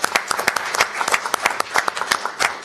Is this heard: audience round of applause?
yes